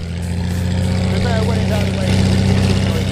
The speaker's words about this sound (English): At 1:30, it was time for the plane to rev up its engines as Kelly prepared to take to the skies